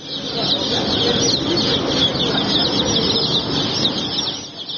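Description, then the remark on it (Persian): A dense crowd of chickens and chicks clucking and cheeping all at once, a steady loud din with fluttering wings mixed in, continuous throughout. The chicks are from mass hatching and are being disposed of alive with a mechanical excavator, reported in late Farvardin 1399 (April 2020). “اواخر فروردین ماه 1399 جوجه کشی انبوه با بیل مکانیکی یا زنده زنده.”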